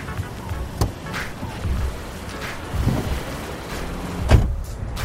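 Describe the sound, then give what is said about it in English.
A car arrives in Malibu to pick someone up, with a low, steady engine rumble broken by a couple of sharp thumps, like a door, and a short whirring sound. No one speaks. “It feels good to leave all of my problems at the Cove and let this car take me away from Malibu for the evening.”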